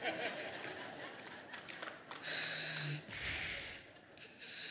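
Heavy breathing through a diving regulator, loud: a few raspy, hissing inhales and exhales in slow succession, with no talking.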